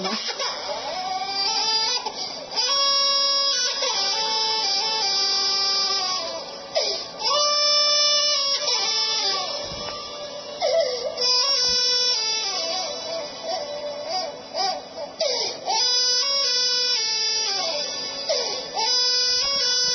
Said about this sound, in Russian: Послушайте, пожалуйста, как плачет ребенок, на самом деле молится.